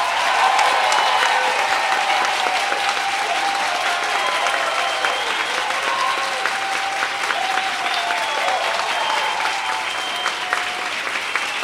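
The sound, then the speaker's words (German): An audience applauding steadily throughout in an applause vote for Yannick Sellmann at an evening contest, dense rapid clapping from many hands with some faint cheering mixed in, sustained at a fairly loud, even level from start to finish. “Wenn ihr findet, der Abend sollte an Yannick Sellmann gehen, dann applaudiert bitte jetzt!”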